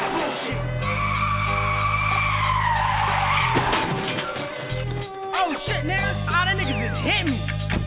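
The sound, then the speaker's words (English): Car tires squeal and skid loudly over a rumbling engine, with a brief jolt midway as one car rams another, then the screeching and revving carry on. “When he get to run the block, he just ram him in his tags, alright?”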